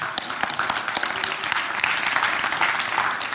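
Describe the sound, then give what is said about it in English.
An audience breaks into steady applause for Jesus during communion, a dense wash of many hands clapping at a constant, fairly loud level for a few seconds, with no voices rising above it. “We just get a round of applause for Jesus and what he did.”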